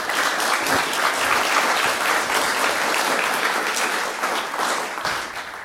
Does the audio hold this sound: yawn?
no